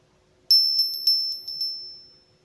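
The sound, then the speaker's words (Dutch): A small bell rings out in a quick flurry of bright metallic dings, about seven strikes over a second, then a clear tone rings on and fades away. No one speaks. “Tijd voor het belletje”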